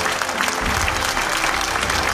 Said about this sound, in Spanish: Fuerte aplauso para todos ellos.